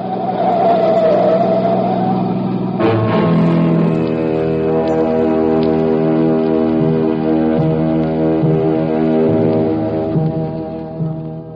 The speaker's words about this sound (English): Alone at last on Pier 17, Hoboken, a banana boat was whistling hello to the USA. Ah, the Susie Q.